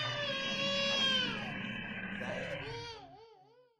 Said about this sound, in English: Instantly, the infant began to scream and cry, and an infernal disturbance could be heard coming from inside the room.